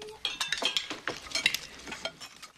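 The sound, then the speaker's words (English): Cutlery clinks and scrapes against plates in quick, irregular bursts as people at a table hammer and chop at hard, dry turkey, with bright metallic ticks throughout the meal and a faint murmur of voices underneath. “Later, they all tuck into the hard, dry meat.”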